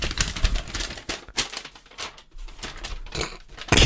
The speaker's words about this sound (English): I thought the sound sounded nice. It was like ASMR. The paper's not as crinkled as that sounded. It's really not. I really over-crinkled the letter, didn't I?